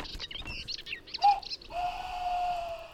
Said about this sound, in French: Les cris et chants d'oiseaux sont de précieux indicateurs de leur présence et aussi d'identification des espèces pour les personnes aguerries qui seront attentives à leur intensité au type de son, aigu, grave, à la durée des phrases, au rythme